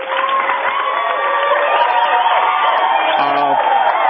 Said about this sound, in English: The applause is for the Rays, and you too.